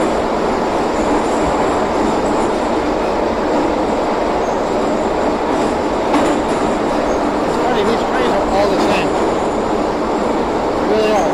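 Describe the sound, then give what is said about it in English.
A steady, loud rumble from inside a moving basic subway car with no electronic signs, with rattling wheels and brief metallic squeals partway through as the train runs along the track; faint voices may be buried underneath. “Petersburg, but no electronic signs or anything like that, just basic subway cars.”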